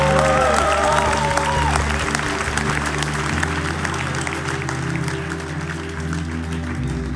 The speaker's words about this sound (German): Das ist nochmal dein Applaus.